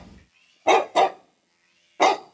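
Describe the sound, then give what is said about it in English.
A dog barks three times, two quick barks close together and then a third after a short pause, loud with no talking. “And finally, we'll do dog and cat.”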